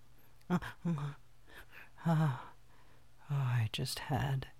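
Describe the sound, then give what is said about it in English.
A voice imitates snoring: a handful of breathy, rumbling snorts and wheezes, fairly loud, arriving in uneven bursts with short quiet gaps between them. “snore.”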